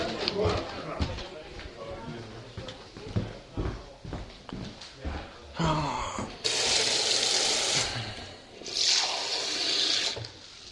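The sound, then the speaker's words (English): Water runs from a tap in two bursts, a steady hissing gush each lasting a couple of seconds, after a stretch of indistinct voices and clatter. “Actually, could I just get some water?”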